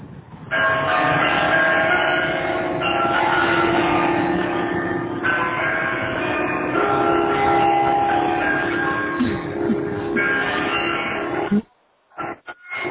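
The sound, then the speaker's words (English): Church bells at Iowa State University ring out a pop tune at noon on a Friday, loud and sustained, with overlapping tones shifting every few seconds for about eleven seconds before stopping abruptly. “Here's what the church bell sounded like on noon. On a Friday.”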